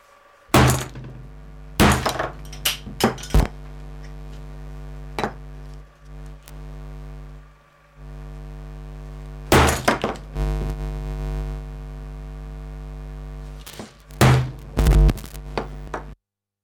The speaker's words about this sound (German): Ich zerschneide die Oberfläche. Und ich erledige den Lautsprecher mit einem Hammer.